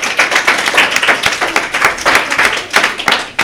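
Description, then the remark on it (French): A group applauds steadily for several seconds, many overlapping claps forming a dense, crackling wash with no one speaking, applauding the referees who scored 5 points in a quiz game. “On peut les applaudir.”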